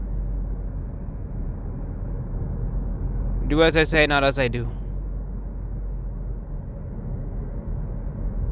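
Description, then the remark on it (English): A steady, low rumble of road noise inside a moving car, driving in the morning with not many cars around, fills the whole recording, with a short spoken phrase from a voice partway through. “Don't be on your phone while you're driving, though.”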